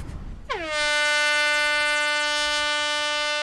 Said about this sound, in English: With a loud horn, the first round of the day is set into motion.